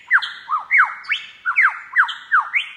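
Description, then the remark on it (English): A lyrebird sings loud and clear: a rapid run of varied whistled sweeps and harsh squawking notes, about a dozen phrases in under three seconds, mimicking other birds, recorded in Australia by wildlife recordist David Stewart. No one speaks. “In Australia, Mr. Stewart recorded the lyrebird, which can imitate the sounds of a dozen other birds.”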